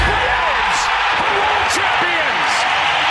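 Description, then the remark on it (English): A huge stadium crowd roars in celebration of the Atlanta Braves' championship win, a dense, steady wall of cheering with scattered whoops and shouting voices rising out of it for the full three seconds. “The Atlanta Braves have given you a championship. Listen to this crowd.”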